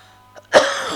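A king in a narrated story coughs: a single sharp cough bursts out after a brief throaty catch, then trails off into a lingering breathy rasp. No talking accompanies it.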